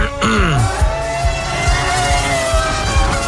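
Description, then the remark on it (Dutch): A Formula 1 race car engine screams loudly, its whining pitch sweeping down sharply at the start before settling into a sustained, high-revving roar with no talking. “Dat is hem, de F1-auto.”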